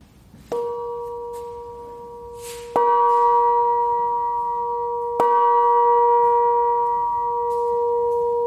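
A large cast bell, cast for the state garden show in Apolda and now hanging in a workshop, is struck three times at slow, uneven intervals, each strike loud, its deep humming tone ringing on and overlapping the next. No one speaks.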